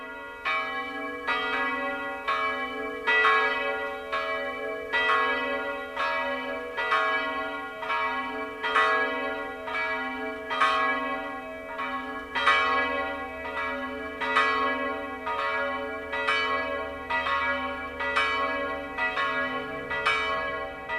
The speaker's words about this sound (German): Es ist 12 Uhr. Das Mittagsläuten kommt heute aus der Filial- und Wallfahrtskirche Allerheiligen bei Warngau in Oberbayern.